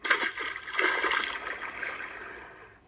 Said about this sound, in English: So frog jumped into the pond.